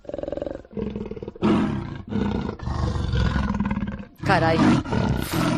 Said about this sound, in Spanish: Por poco que te guste, es muy difícil confundir este aullido con el rugido sordo de un leopardo que suena así.